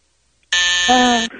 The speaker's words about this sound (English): Yeah, that would have been a great answer before the buzzer.